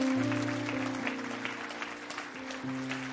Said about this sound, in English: Come on, give him a great clap offering, would you? Come on.